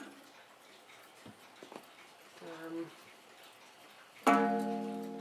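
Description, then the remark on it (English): A quite big mantel clock strikes once with an unusual strike, a loud, ringing chime that hangs and slowly fades, after a few quiet knocks and a brief murmur. “That's got an unusual strike, that thing has. It's a nice clock.”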